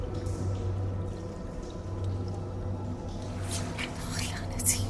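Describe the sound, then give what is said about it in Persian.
Water sloshes and trickles as a person sitting by the water puts a hand in and stirs through it, with brief brighter splashes near the end, while a low voice steadily whispers an incantation over a constant background hum. “دستشو میبره توی آب، ورد میخونه.”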